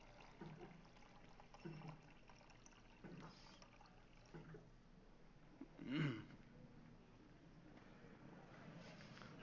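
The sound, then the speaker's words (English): Water splashes and trickles as it is poured for a drink, a soft running sound over a low background hiss, with one louder gurgling surge partway through. “Couple more seconds while I go and get a drink of water.”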